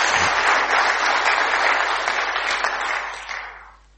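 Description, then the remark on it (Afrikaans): A crowd applauds steadily with dense, crackling clapping for about three seconds, then the sound thins and fades out toward the end. No one speaks over it. “kos geef hom 'n lekker hande klap.”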